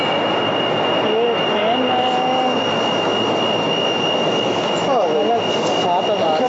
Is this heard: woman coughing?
no